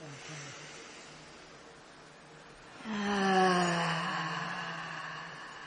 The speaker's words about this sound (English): So take a breath with me. Mm-hmm. How about one more of those?